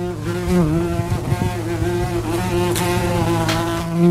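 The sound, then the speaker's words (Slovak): Several worker wasps buzz around their nest in a steady, overlapping drone, the pitch wavering as individual insects move around and pass by; no voices, with slight swells in loudness. “Je to samozrejme dobre to robiť na začiatku sezóny, kým ich je málo, lebo už keď je tam tých robotníc viacej, človek má z toho nepríjemný pocit, keď tam tak nadávajú.”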